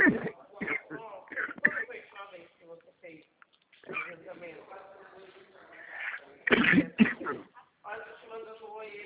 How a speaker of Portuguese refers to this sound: Ah, é crise de tosse. Ah, entendi.